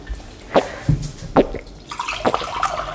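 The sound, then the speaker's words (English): Someone drinks water loudly, with a few wet, gulping swallows spaced roughly a second apart and faint watery sloshing between them. No one speaks. “You drink so loudly!”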